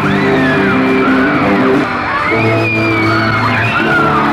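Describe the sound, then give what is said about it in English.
A huge crowd of fans screams and shrieks nonstop at a concert in Chicago in 1966, on the band's final tour. The screaming is loud, with high, sweeping voices piercing the din and the band's music buried faintly underneath the roar. “somewhere in amongst all that screaming is … and …”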